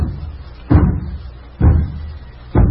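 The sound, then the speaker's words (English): Three heavy, booming knocks on a door by the mailman, evenly spaced about a second apart, loud, over a faint steady background with no voices. “For Pete's sake, who's at the door?”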